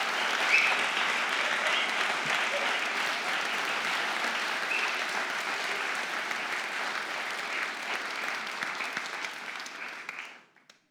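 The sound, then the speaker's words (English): Sustained audience applause for a choir, a dense, steady wash of many hands clapping at even loudness for about ten seconds before tapering off quickly, with no voices over it. “As we remain standing, I just want to ask if we could give the choir a huge round of applause for all that they have done for us this evening.”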